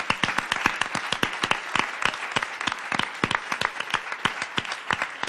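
A crowd claps steadily, many hands producing dense, overlapping sharp claps in a sustained burst of applause that stays fairly even in loudness throughout.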